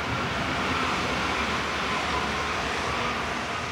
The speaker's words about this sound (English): We turn a corner to find the train tracks in front of us and a New Silk Road train passing through, headed west to Central Asia and possibly all the way to Europe.